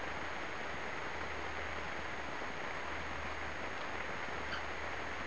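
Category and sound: nature, rain falling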